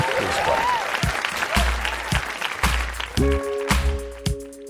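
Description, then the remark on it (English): A burst of audience applause, dense clapping from many hands with a few cheers and whoops over it, steady and fairly loud for several seconds while a low tone sounds underneath. “Please clap.”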